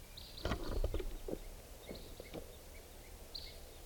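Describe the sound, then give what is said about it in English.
At 6:55 in the morning, a few short, high, chip-like calls of type 2 red crossbills come at scattered intervals, fairly faint, mixed with some soft clicks and thumps in the first half. “Morning, it's 6:55, and I hear crossbills, type 2s coming around.”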